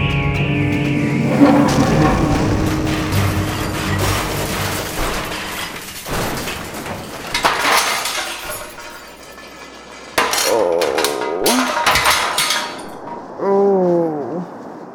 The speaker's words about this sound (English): Where are we? Looks like we crashed on the beach just short of the runway.